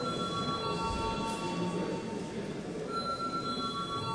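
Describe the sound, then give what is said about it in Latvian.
A parliament voting bell rings continuously for about four seconds before deputies vote on a bill amending the waste management law in first reading, a steady, bright electric tone holding at an even loudness over a low, rumbling background hum, with no one speaking. “Lūdzu, zvanu.”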